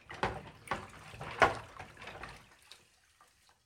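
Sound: tap water running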